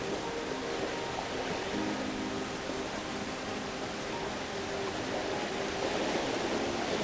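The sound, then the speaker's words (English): A steady, dense rushing roar of falling water fills the scene, broad and constant without pause, as spray from Bowen Falls in Milford Sound pours down, heard from aboard a small ship. “They dance down as a spray from up above, and it is not rain, but water from a waterfall.”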